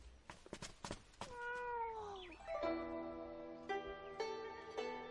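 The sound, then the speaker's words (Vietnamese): A cat meows loudly and insistently, first a few short sharp calls, then a long drawn-out wail that slides down in pitch, followed by more sustained cries. “Mèo thí chủ không cần khách sáo đâu.”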